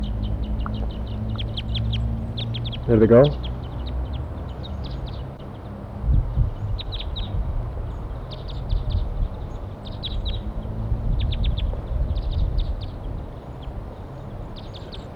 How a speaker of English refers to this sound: They want to go. Wild birds and 4-3 responds. Trying to call them off and fly off. There they go. Wild birds in flight.